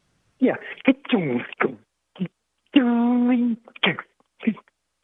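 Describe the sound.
A voice imitates an old crossbar telephone switch returning and collecting payphone coins: quick clattering vocal bursts, a steady droning hum imitating the dial tone, then a few more short bursts, all thin and phone-like.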